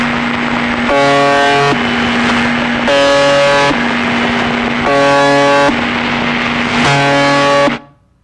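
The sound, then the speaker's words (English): A harsh, droning buzz over constant radio static, repeating in four roughly one-second bursts at an even rhythm, each a rough, low-pitched tone rich in overtones, ending abruptly. No voices. “Okay, that was the buzzer, and I think that you can understand how it got its name.”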